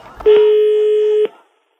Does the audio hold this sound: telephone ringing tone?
yes